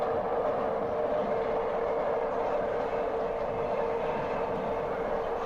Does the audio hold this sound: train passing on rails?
yes